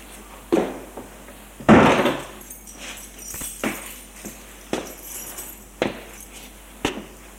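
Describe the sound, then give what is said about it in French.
Clinking rattles of a keyring, followed by a series of sharp metallic clicks and knocks as a lock is worked and the right-hand door on a first-floor landing is pushed open, with no voices. “Il va vers celle de droite pour sortir son trousseau de clés et ouvrir la porte.”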